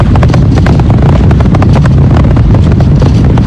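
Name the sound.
rocket engines roaring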